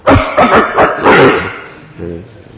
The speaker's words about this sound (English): He's saying, this is my Seva Kunj. Get away. This is my area. And the dogs are barking amongst each other, fighting over who's the proprietor, who's the predominating deity of that section of Vrindavan.